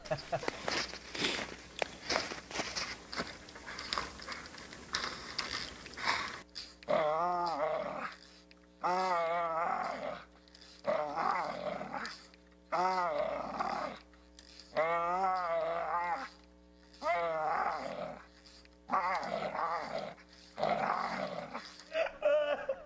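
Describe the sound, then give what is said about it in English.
Scuffling and rustling of a dog moving around as it chases a stick, then a series of about seven wavering growls in separate bursts with short pauses between them, loud. “All right, speaking of dreaming bigger, this dog chasing the impossible stick.”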